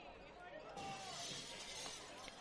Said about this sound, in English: Another broken window for Vision Glassworks.